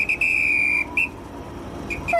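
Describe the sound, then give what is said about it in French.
A train whistle sounds one long, shrill, steady blast, then a few short high toots over a low rumbling background as a sleeper train with couchette cars departs the station. No one speaks. “Et puis voilà, le train démarre.”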